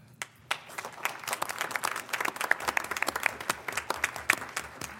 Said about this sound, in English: Actually, would you stand and let us say publicly thank you? We have reason to applaud these people. Please stand.